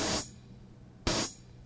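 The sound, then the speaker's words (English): Two open hi-hat cymbal hits from a drum machine, each a bright, hissy cymbal wash that rings for a fraction of a second before cutting off, spaced about a second apart with no voices. “And when they're open, it would sound like this.”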